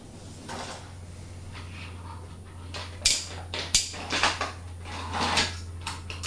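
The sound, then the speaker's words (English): A toy ambulance's back door is opened with a couple of sharp plastic clicks, followed by light rattling and handling noises, over a steady low hum. “See, the door's open at the back.”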